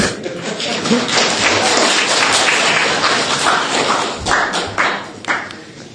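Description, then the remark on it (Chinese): An audience claps for God, a dense, sustained burst of many hands slapping at once, fairly loud and steady before thinning out and tapering into scattered claps near the end. “我们神很可怜啊，替神拍拍手好不好？”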